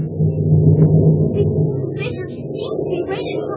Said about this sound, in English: It's still pouring rain, and the night's mighty dark. Just listen to that thunder.